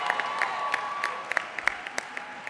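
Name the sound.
audience cheering and applause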